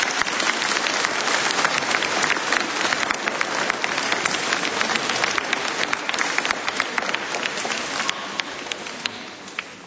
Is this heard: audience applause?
yes